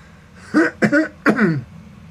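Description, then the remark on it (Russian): A young man who is embracing a woman coughs three times in quick succession, the last cough a bit longer and raspier, fairly loud against a quiet background with no talking. “Кашлял молодой человек, который обнимался с женщиной, с которой ему не очень хотелось, наверное.”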